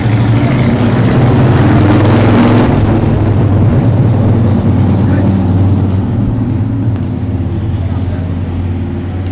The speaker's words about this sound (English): The Harleys were another great family, but I don't think they had anything to do with that motorbike that just went past.